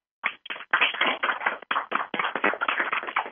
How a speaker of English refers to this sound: I want everybody, I'm going to unmute the lines, I want everyone to give a round of applause for our special guest tonight, Barry Morrow.